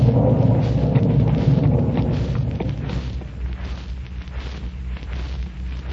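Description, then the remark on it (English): A deep, rolling rumble of thunder during heavy rain on a golf course, loud at first, slowly fading into a lower, steady grumble over several seconds, with a faint hiss of rain in the background. “It's raining pitchforks and hammer handles.”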